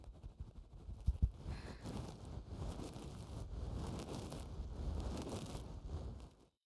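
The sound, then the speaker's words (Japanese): A warm, damp steamed towel rubs and wipes against the microphone, producing a continuous soft, muffled rustling with a few heavier bumps near the start, with no voices. “こうやって蒸しタオルでお拭きすると血行が良くなってとっても気持ちいいんですよ。”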